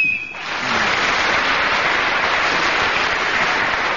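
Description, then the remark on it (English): A short, slightly faulty-sounding BBC game whistle, slowly deteriorating, blown as a contestant is speaking: a single steady high tone lasting a fraction of a second, followed by loud, sustained applause filling the rest. “So, Jenny Eclair was speaking as the whistle went, which is slowly deteriorating, the whistle sound.”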